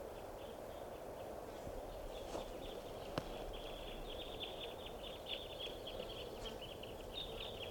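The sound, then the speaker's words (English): A steady chorus of about 20 small birds fluttering around a frog chirps and twitters together, the overlapping high calls running continuously over a low outdoor rumble, with an occasional faint tap. “Must be 20 birds.”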